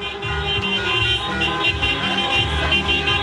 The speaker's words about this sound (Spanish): Y mira, acá, de hecho, aquí pueden escuchar también el sonido ambiente también de los vehículos que están pasando con los bocinazos.